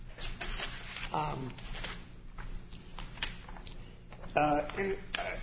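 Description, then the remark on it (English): Rustling and shuffling of paper in quick, uneven bursts as sheets are reached for and handled, with a few brief voiced murmurs mixed in. “If I could just reach this paper.”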